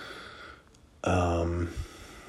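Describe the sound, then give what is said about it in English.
A woman gives one loud, rasping snore that cuts through a steady background hum. It lasts under a second, followed by a brief softer snort. “She's definitely snoring right now.”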